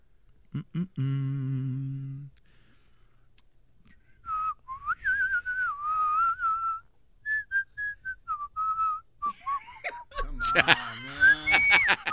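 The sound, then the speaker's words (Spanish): A radio announcer whistles a short, wandering tune, the clear tone sliding between notes in phrases with brief pauses, followed by a burst of louder, busier noise. “Es el único locutor que se pone a chiflar.”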